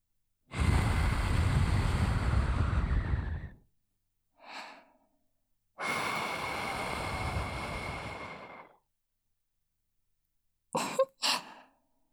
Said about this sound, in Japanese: こうして吐息吹きかけられてるだけでも、こそばゆい感じで。お耳、気持ちいいでしょ？